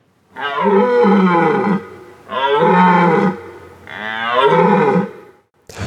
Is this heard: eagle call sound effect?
no